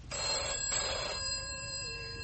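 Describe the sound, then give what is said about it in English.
A telephone bell rings once, a loud, bright metallic jangle that fades into a lingering tone, a call from the hospital. No one speaks. “That's the hospital on the phone now.”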